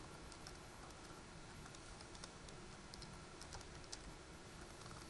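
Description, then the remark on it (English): Someone types a password on a computer keyboard to reset a server administrator password, a quick irregular run of soft clicking keystrokes, fairly faint over a steady background hiss, with no talking. “Type the password correctly.”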